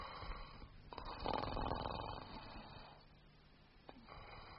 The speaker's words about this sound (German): Lächerlich, dieses Schnarchen. Dieser massige Hals, die verwelkte Fratze. Aber es ist ein Mensch. Er atmet.